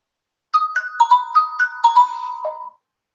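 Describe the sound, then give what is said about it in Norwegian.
A phone rings with a melodic electronic ringtone, a quick tune of bright stepping notes playing for about two seconds, clear with no voices. “Så nå ringer det.”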